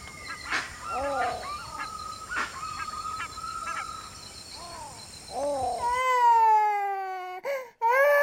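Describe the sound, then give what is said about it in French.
Tinamou calls: a series of short, clear whistled notes with soft clicks, then a louder, drawn-out wavering whistle that swells and dominates the end, with no one speaking. “Bon bah, on écoute les oiseaux alors.”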